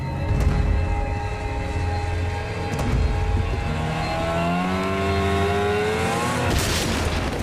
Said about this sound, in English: He leaps onto a small launch, pulls the starting cord on the outboard motor, and starts to shadow the general's boat.